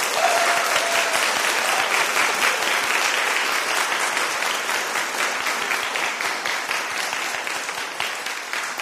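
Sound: audience applause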